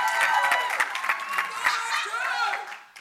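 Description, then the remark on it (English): A crowd claps and cheers steadily, with scattered sharp handclaps over a dense wash of voices and whoops, tapering off at the very end. “Now, I didn't hear that round of applause for Brother Poole.”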